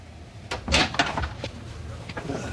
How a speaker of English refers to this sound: And slams out of the room.